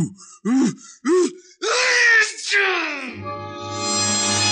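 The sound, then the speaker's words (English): A loud, exaggerated sneeze by the character Sneezy: two short gasping inhales build up before a big, drawn-out burst, followed by a steady, humming tone. “That last one must have registered on the Caltech seismograph.”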